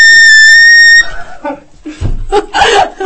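A loud, piercing whistle blast, blown as an attempt in a whistle game, holds steady for about a second, then cuts off and gives way to people laughing and chattering.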